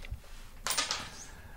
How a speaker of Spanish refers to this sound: Se me caen las monedas.